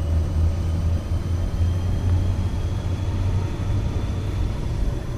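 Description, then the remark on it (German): An Alaska Railroad train of nine blue-and-yellow cars and a mail car slowly getting underway on the line to Seward, heading up toward the glaciers. It is heard as a steady, deep mechanical rumble with a faint hum at an even loudness throughout, with no voices. “Gemächlich setzt sich der Zug in Bewegung.”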